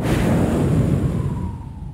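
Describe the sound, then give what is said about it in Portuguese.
A voice imitates a strong rushing wind, a steady breathy roar heavy in low rumble that holds for about two seconds and eases slightly toward the end, with no words spoken. “Estavam todos sentados, orando, e de repente veio como um som, como um vento veemente. Sabe aquele vento?”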